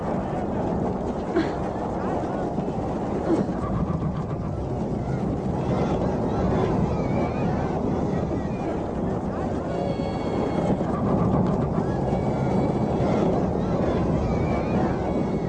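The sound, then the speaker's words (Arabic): A howling hurricane wind roars without pause for the whole stretch, loud, with a churning, surf-like rush beneath it and faint whistling gusts rising near the end. “ما الذي يحصل؟ لم أرى في حياتك هذا الإعصار.”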